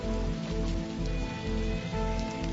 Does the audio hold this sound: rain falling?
yes